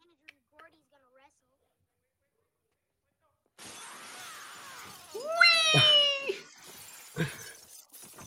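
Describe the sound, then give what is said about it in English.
A cat lets out one drawn-out, rising meow, fairly loud over a steady background hiss, with a few faint clicks beforehand and a brief murmur afterward. “Come here, purr box.”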